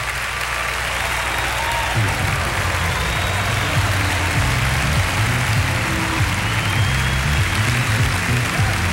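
Steady, dense applause from a crowd, a continuous rush of many hands clapping at an even loudness throughout, with faint low murmuring underneath.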